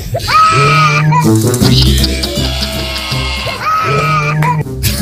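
A young child wails at full volume in a car, long strained cries broken by brief gasps for breath, with a low rumbling hum underneath.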